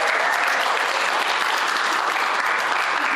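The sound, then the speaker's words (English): An audience applauds a man about to give a reading, a dense, steady wash of many hands clapping at an even, loud level for a few seconds with no voices standing out. “would you like to give him a big round of applause?”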